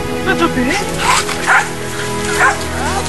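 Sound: dog barking and whimpering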